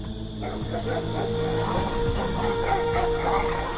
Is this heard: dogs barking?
yes